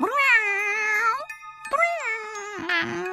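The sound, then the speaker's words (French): Léontine's cat meows several times in a row, long drawn-out wavering cries followed by a shorter one, fairly loud with no talking. “Miaule le chat de Léontine.”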